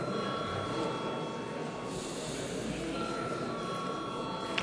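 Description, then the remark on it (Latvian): A continuous electric bell rings steadily and loudly for the whole stretch, a shrill, unbroken metallic buzz with a constant pitch and no pauses, summoning parliament deputies to vote on a bill in its second reading. “Aicinu deputātus atbalstīt likuma projektu otrajā lasījumā. Paldies, lūdzu zvanu.”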